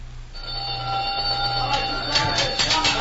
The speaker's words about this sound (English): The gong will sound off any minute. The men will be crowding for supper.